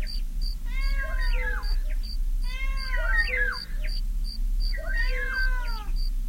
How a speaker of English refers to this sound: Listen, listen to the cuckoo in the distance and the cat between you and the stupid cricket. Hear them move around you.